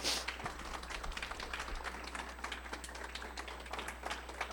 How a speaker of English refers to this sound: You can go ahead and clap, that's fine.